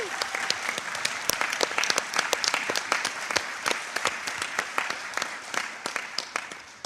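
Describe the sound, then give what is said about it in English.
A crowd applauds steadily in another round of applause for a woman who has just spoken, dense overlapping claps forming a bright, crackling wash with sharper individual hand claps popping out throughout, holding a fairly even level for about seven seconds with no speech. “We're so happy to have you here with us today, and I'd like to hear another round of applause for her, please.”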